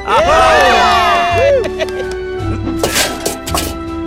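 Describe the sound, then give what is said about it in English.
A loud burst of many voices cheering and whooping together as a class of Year 5 dragons, pitches swooping up and down for about a second and a half, then fading into quieter background tones with a few sharp hits. “And all the Year 5 dragons gave a loud, resounding cheer.”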